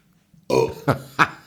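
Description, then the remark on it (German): A forced, deliberate burp, starting with a drawn-out belch and followed by two shorter gulping burps, moderately loud with no talking. “Also das ist schon so, das ist kein besonders eindrucksvoller Rülps, aber es ist ein merkbarer.”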